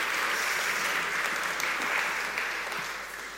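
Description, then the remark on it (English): A crowd applauds steadily for a few seconds, many hands clapping in a dense, continuous wash that stays loud before tapering slightly at the end. “We'll give you a round of applause.”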